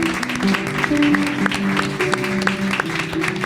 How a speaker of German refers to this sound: Applaus auch.